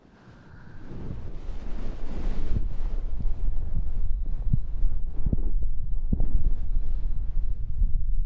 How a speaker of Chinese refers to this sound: 没关系，来听听姐姐的心跳声吧。